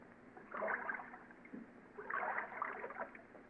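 Water rushes and swishes against a sailboat's hull in two moderate surges about a second and a half apart, with a low steady wash underneath and no voices.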